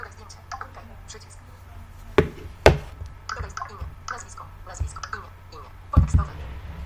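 Phone keyboard typing clicks as a name is typed in to save a new contact: an irregular run of short, sharp taps, with a few louder clicks standing out among quieter ones, fairly clear.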